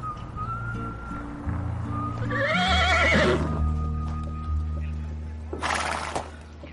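A horse lets out a long, wavering whinny midway through, over a low steady drone, with faint hoof clops and a burst of noise near the end, as a man works with his horse.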